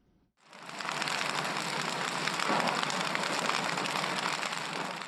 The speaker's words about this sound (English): A campfire burns in a remote village on Cameroon's northwestern border with Nigeria, where 7 men and 5 boys roast cocoyam for supper.